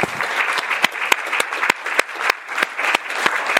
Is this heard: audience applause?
yes